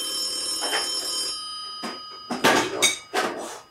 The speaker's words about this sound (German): Oh, klingelt das Telefon? Warum klingelt das Telefon? Oh. Das ist ein FaceTime-Anruf.